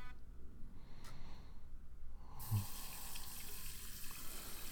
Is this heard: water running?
yes